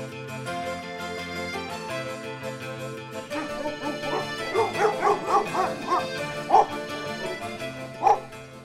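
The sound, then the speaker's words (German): Several dogs bark and yip, starting sparse then building into a rapid chorus of overlapping high yelps, with a couple of sharper, louder barks near the end. “Die Hunde, die wollen wir doch unbedingt noch besuchen.”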